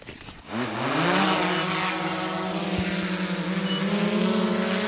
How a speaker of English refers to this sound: He's got a controller too, so he'll take over the drone and land it over there, and then he'll send it back again. Take it away.